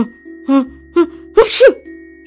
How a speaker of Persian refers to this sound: بیش از هر زمان دیگری عطسه می کرد. قسمت بالای گونه ها و پیشانیش کاملاً صورتی شده بود.